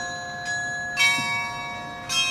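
carillon bells chiming

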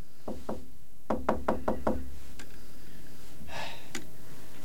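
knocking on a door

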